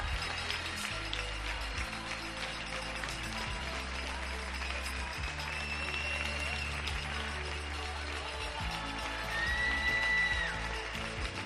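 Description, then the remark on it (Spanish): Thousands of people in Spain applaud from their balconies at 8 pm for everyone working for them, a dense, steady wash of clapping that runs throughout, with high whistles and scattered shouts and voices rising over it. “Un día más a las 8 de la tarde, miles y miles de españoles, supongo que podemos decir la palabra millones, aplauden a todos los que están trabajando por nosotros.”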